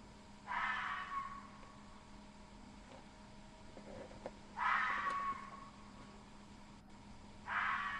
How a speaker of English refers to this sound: Now, let's go to some fox calls. And no, that's not a euphemism for anything. Yeah, it's usually referred to as wolf whistles, not fox calls. But I think fox calls is actually a better term. Anyway, fox calls. Listen closely.